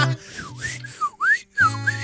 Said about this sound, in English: Can somebody whistle for me a little bit? A little dry in the whistle there